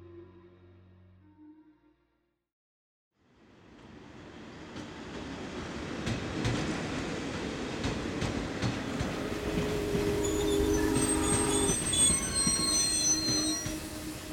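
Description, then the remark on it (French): A passenger train rumbles in after a brief silence, its heavy roar rising, then shrill, high-pitched squeals of braking wheels layer over the noise for the last few seconds as it comes to a stop. “Quand le train s'arrête, tous les passagers retiennent leur souffle.”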